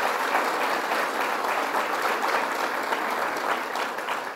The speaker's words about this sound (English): I would like to mention we lost a great friend of mine, great friend of labor, Russ Quarantello, who I would normally see at an event like this, and let's give him a round of applause for the good work he did for all of us.